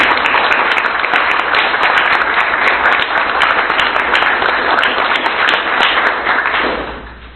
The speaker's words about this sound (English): Also round of applause.